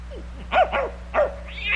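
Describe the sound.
A voice imitates a dog being set on a cat: a few sharp, yelping dog-like barks in quick pairs, then a rising, drawn-out yowl at the end, fairly loud with no other talk.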